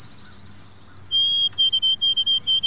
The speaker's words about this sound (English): From a nearby evergreen, come the pure whistled notes of a white-throated sparrow.